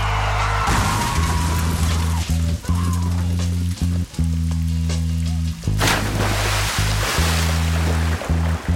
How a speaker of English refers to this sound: where he's, in theory, speaking into a sort of tape recorder as with his pregnant girlfriend in the back of his car, and he drives into a river.